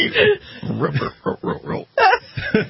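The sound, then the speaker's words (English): A pig oinks and grunts in a quick run of short, snorting bursts, fairly loud, with a slightly thin, muffled tone and no one talking. “Did your pigs get loose in the studio?”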